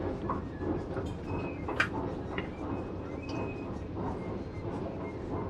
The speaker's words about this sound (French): C'est le Nord. Aujourd'hui, je vous emmène en métro.